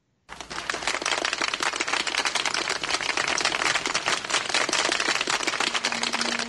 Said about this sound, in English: That's like eight people clapping, by the way.